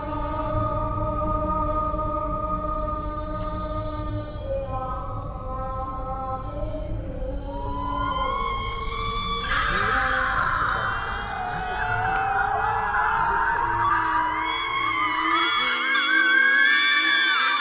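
A muezzin's call through an old loudspeaker: long, wavering sung tones that slide in pitch, with more overlapping calls joining midway, all over a steady low rumble.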